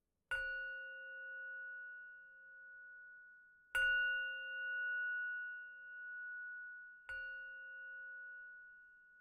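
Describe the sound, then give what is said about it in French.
A meditation bell is struck three times at slow, even intervals during a seated meditation, each strike ringing out with a long, shimmering sustain that overlaps the next. No one speaks. “Bienvenue à cette méditation assise où on utilisera le son de la cloche pour nous ramener au moment présent.”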